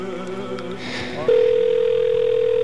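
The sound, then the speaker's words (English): A steady, unbroken telephone line tone, heard when calling a show's phone number at WBAI, starts partway through and holds a single mid-low pitch at a constant, fairly loud level, after a brief stretch of muffled background noise. “That's the sound that you get now if you call our telephone number.”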